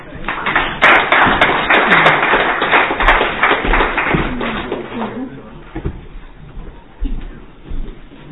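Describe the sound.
An audience breaks into dense, steady clapping that holds strongly for about five seconds, then thins out and fades while a few voices murmur underneath.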